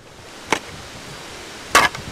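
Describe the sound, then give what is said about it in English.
A shovel digging a drainage trench in a yard in the town of Columbus, to drain water from around a house to the street: two sharp, gritty strikes about a second apart, the second longer and louder, with no voices. “who is digging a trench in his yard to try to drain water from around his house to the street.”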